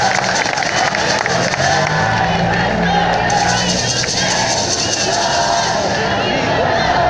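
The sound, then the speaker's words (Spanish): A large crowd applauds loudly and steadily, a dense wash of clapping mixed with cheers and overlapping voices that holds at an even level throughout. “¡Un aplauso fuerte para el químico!”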